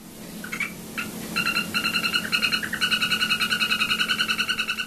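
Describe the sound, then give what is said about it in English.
A golden poison frog calls in rapid, buzzy trills, short bursts at first and then a long steady run of quick pulses, clear above a low, constant background hum. “I want to ask you about the golden poison frog.”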